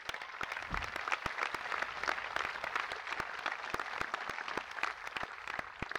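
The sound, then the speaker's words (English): An audience at an event on the ADA applauds people honored for their involvement with the disabled community, steadily for several seconds, a dense, even wash of many hands clapping with sharper individual claps popping out, with no voices over it. “We applaud you and your shining example, and thank you for your leadership for all that are here today.”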